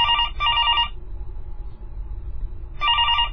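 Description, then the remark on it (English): A telephone rings loudly in a classic double-burst pattern, pauses, then starts ringing again, with a low rumble of room noise underneath and no voices. “Won't stop ringing. Adam looks around wondering why Hawa isn't answering it and then finally answers it himself.”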